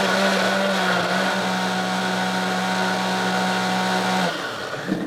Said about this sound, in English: So we just want to put everything in this blender, and hopefully the blender cooperates.